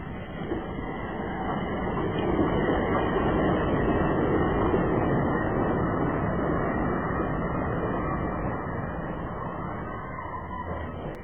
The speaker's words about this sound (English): Well, the train won't be many minutes before it's here now. Here's the train.